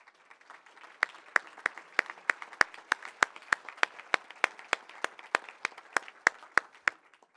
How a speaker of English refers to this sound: Can I ask all the veterans in the room to just stand up and recognize some applause from everybody else? Please, all the veterans.